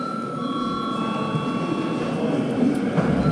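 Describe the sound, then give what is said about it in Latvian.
A steady electric bell rings in a parliament chamber to call a break, without pause for several seconds, a continuous high, buzzing tone with a constant level over a low rumble of background noise. “Lūdzu zvanu.”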